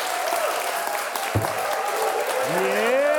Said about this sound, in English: A round of applause for yourselves. You're fantastic.